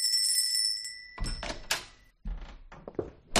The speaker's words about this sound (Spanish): No hay carteles deslumbrantes ni anuncios llamativos, solamente una puerta que se abre al sonido de una campanilla discreta.